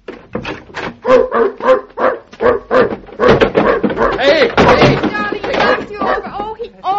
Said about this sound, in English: how did you get a dog like this in a pet shop?